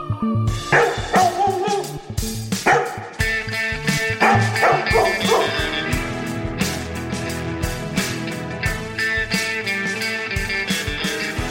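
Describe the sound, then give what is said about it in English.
Several loud dog barks and yips come in quick bursts over an upbeat music track, most of them packed into the first few seconds before the music carries on without them. “It's Doggy Pod time. Release the hounds.”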